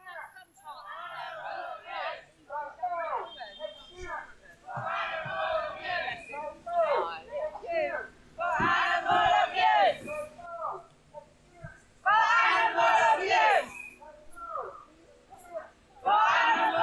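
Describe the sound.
A protest crowd chants together at the Stop the Grind demonstration in Trafalgar Square on 16 October, loud rhythmic bursts of many voices rising and falling in repeated phrases, with short gaps of murmuring between the shouts.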